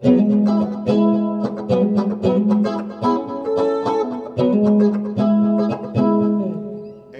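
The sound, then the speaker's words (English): A loud, steady passage of mid-to-late-1970s-style electric guitar music with driving rhythmic strums and sustained, harmonically rich chords, played alone without any voices for several seconds. “You started getting into a lot of this kind of guitar sound.”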